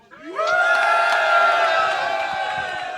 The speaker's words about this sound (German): Das ist dein Applaus